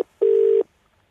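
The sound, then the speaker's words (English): A telephone tone sounds once as a celebrity phones a randomly chosen person for Star Caller: a steady, loud electronic beep lasting under half a second, preceded by a tiny click, with silence afterward and no voices. “then they call you up”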